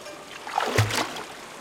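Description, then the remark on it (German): Water sloshes and splashes against the hull of a ferry with rotten wooden planks as the ferryman races around rocks, swelling into one brief, fuller splash midway over a steady background wash of moving water. “halten uns an den morschen Planken fest und vertrauen dem Fährmann, der in rasender Fahrt die Felsen umrundet.”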